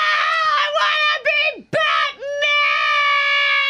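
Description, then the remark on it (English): An adult voice imitates a young boy's screaming, crying meltdown in a party supply store, a loud, high, sustained wail that breaks and dips in pitch a couple of times before stretching into one long shriek. “And he had a screaming, crying meltdown, and I had to drag him through Party America.”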